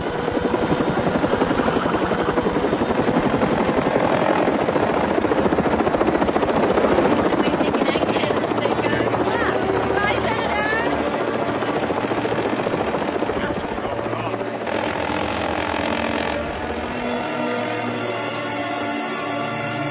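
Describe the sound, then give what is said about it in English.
Loud, continuous helicopter rotor noise from a helicopter going down fills the whole stretch, a dense roaring wash with a steady low throb underneath, unbroken from start to finish. “Our helicopter's going down.”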